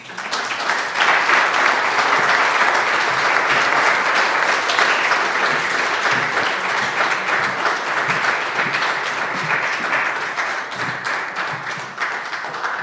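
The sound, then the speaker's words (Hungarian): Steady, dense applause from an audience at a HUNGARNET Association award ceremony, greeting the manager award recipient, a continuous wash of many hands clapping at an even loudness for about thirteen seconds, with no voices over it. “Hát a tapsból is látszik, hogy ismert szeméről van szó.”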